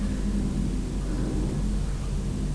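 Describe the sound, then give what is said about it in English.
A white and green garbage truck idles, its deep, steady engine rumble filling the background with a constant low drone, while the driver gets out to lift up the bin bags. “Oh, it's the man driving the truck that's getting out to lift up all the bin bags.”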